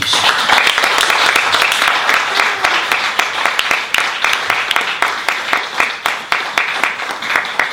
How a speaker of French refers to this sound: Est-ce que je veux quand même demander une chose, d'applaudir très très fort.